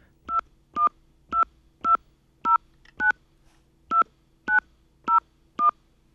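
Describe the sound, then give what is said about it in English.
Ten touch-tone keypad beeps dial a 10-digit phone number in a quick, slightly uneven rhythm with a brief pause partway through. Each tone is short and clear, with no talking. “Enter the 10-digit phone number you wish to call.”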